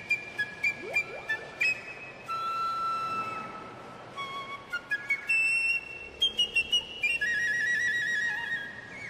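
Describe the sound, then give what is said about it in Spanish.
A whale song recording: high, gliding whistles and rising and falling tonal calls, interspersed with sharp bursts of clicks over a steady hiss, with no talking. “Yo inclusive estoy utilizando ahorita, tengo la dicha de decirles que, a excepción de antes, que a mí me daban las grabaciones de la ballena”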